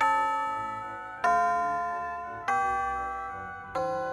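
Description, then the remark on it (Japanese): A ding-dong chime, the signal that the session is almost over, rings out four evenly spaced bell-like notes, each struck tone ringing on and fading slowly into the next, with no voices, at a moderate, clear level. “あ、チャイムが鳴ったね。”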